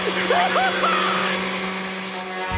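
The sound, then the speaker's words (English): A vacuum cleaner switches on and runs with a steady, loud whirring roar that holds level throughout, while brief faint vocal sounds rise over it early on. “Huh, the TV. That's weird. Vacuum.”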